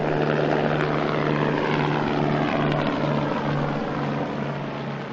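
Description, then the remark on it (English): The Valo prototype, an electric vertical takeoff and landing aircraft (eVTOL) made by Vertical Aerospace, flies, its rotors producing a loud, steady whirring hum with a low droning tone that holds for the whole stretch, easing slightly at the end. “The Valo is just one version of what's called an electric vertical takeoff and landing aircraft, or EVTOL.”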